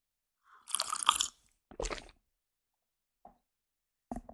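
Wet slurps of someone sipping coffee: a longer noisy sip, a second shorter one, then a faint click and another brief slurp, with quiet pauses between and no talking.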